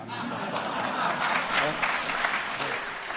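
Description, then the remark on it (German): A crowd in a gym hall at the Pfäffiger Forum applauds steadily for a few seconds, a dense, even patter of many hands clapping at once without building or fading, with faint murmurs mixed in. “Ein bemerkenswerter Applaus.”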